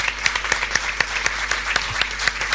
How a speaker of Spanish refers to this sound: Un aplauso para el profesor Gabriel Quirici.